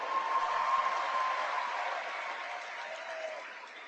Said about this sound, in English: So here is the ambassador right in the middle of his speech. This is the Israeli ambassador to the United States, Ron Dermer, addressing Christians United for Israel, the night of honoring Israel in Washington, D.C. last night. Applause.